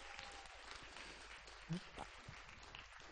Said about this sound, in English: Let's just give them a round of applause for being willing to lead.